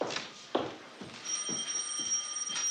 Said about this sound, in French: Merde, téléphone.